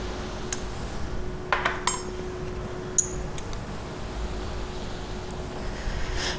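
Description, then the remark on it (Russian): A utensil clinks against a cooking pot a handful of times at uneven intervals while lingonberries with cream and spices are stirred and brought to a boil, sharp metallic taps over a steady low hum, with no one talking. “Доводим до кипения. Чуть-чуть подсолить. Перчить. Так интересно. Перемешать. Прям музыка кулинарии.”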